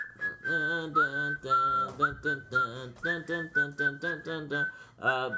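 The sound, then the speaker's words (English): A whistled movie soundtrack melody of long, sustained notes with small pitch slides, carried over a pulsing, rhythmic backing of lower musical tones, steady and fairly loud throughout. “And it had the whistling scene when whatever it was.”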